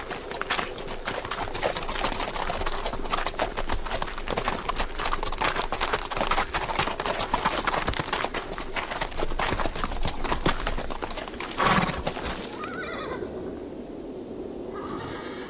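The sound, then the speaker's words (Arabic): Steady, rhythmic clip-clopping of the hooves of tired horses on a journey as the sun is setting, with a horse's whinny rising near the end before the hoofbeats fade into quieter ambience. “تعال أيها الحصان.”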